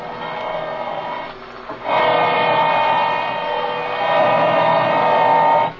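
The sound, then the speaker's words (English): A power drill that is getting very hot runs with a steady, high-pitched motor whine and buzzing overtones. It dips briefly, then surges back louder and holds steady to the end, with no voices. “This drill's getting awful hot.”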